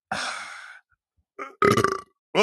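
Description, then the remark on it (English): A loud burp rumbles out, followed by a couple of shorter belching grunts, with brief silences between the bursts. “Oh, he burped. He burped online.”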